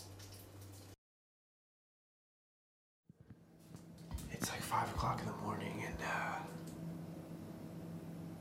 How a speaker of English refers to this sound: I'm not sure if you're catching this, but this is our shower at full blast.